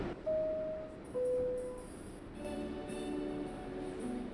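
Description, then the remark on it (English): Two descending chime tones ring out inside a Times Square-bound subway shuttle train as the doors close, followed by a steady rumble and rising electric motor whine as the train pulls away. No one speaks. “This is the Times Square bound shuttle train. Set man stand clear to close the door, please.”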